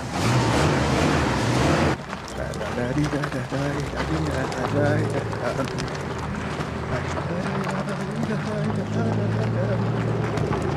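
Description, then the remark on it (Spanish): A pickup truck carrying four people drives off, its engine a rough, continuous roar with wind-like noise and indistinct voices underneath. “Arquímedes, Rojas, Labarde y Daniel se van en la camioneta.”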